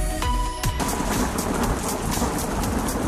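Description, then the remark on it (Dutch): A thunderstorm with steady, dense rain hissing throughout and a sharp crack of thunder early on, rumbling low beneath the downpour; no voices. “Als tijdens een donderbui de bliksem inslaat op water, dan krijgt dat water bijzondere extra eigenschappen.”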